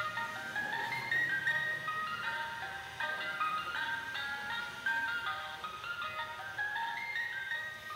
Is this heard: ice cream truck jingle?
yes